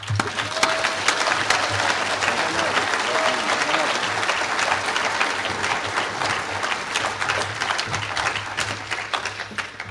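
A crowd breaks into steady, sustained applause, dense overlapping claps filling the whole stretch at an even, loud level without pause.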